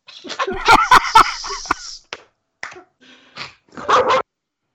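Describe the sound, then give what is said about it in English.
A dog barks in a quick flurry of sharp, fairly loud yaps, then lets out a few more scattered barks after a brief pause. Nobody speaks over it. “There's a dog on Edquist's end.”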